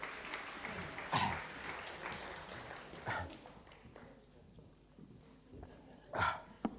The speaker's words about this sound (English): Thank you to my volunteers. Round of applause for my volunteers.